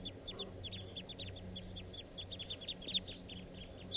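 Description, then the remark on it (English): A flock of eight wild birds perched in the top of a tall red fir by a camp calls continuously, many short high-pitched chirps and chattering notes overlapping in a busy, steady stream over a low rumbling background hum. “And they're sitting up in the treetop calling.”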